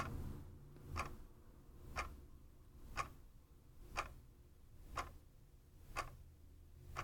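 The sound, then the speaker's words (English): A clock ticks steadily, one sharp click roughly every second, clear over a low background hum, with no voices. “Think of the people who worked hard, focusing all their ingenuity on creating a machine that would keep perfect time.”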